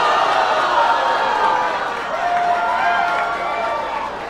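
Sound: audience booing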